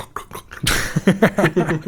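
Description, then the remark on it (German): Someone loudly gulps natural still mineral water at the microphone: a sharp wet onset, then a quick series of throaty swallowing sounds in an uneven rhythm. “Du musst jetzt auch noch ganz laut schlucken.”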